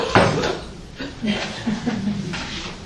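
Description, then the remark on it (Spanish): A chair is shifted into place: a sharp knock near the start, then softer scraping and shuffling bumps, with faint murmuring voices underneath. “Vamos a esperar que establezcan la logística. Una silla.”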